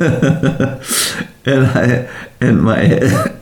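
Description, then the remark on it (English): A short, breathy cough bursts out near the start, wrapped in throaty, voiced rasps of throat clearing that come in a few quick bursts from one person. “I have a little cough.”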